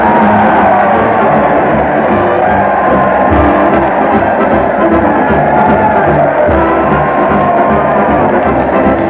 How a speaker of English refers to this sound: Listen to that crowd. They're cheering in the streets as Fred Allen leads his weekly parade at the old town hall.